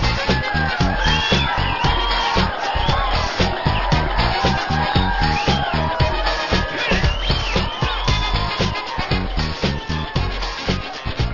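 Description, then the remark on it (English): An audience at the Martin Bender Band Cheer Show on WBRI 1500 in Indianapolis claps steadily in welcome. Dense overlapping hand claps carry a loose rhythmic pulse, while scattered whoops and cheers rise above the applause throughout. “Thank you for that warm welcome, folks.”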